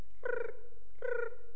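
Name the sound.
voice imitating chirping crickets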